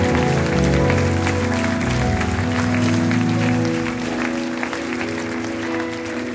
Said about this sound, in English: Come on, keep clapping for him. Let's keep encouraging now.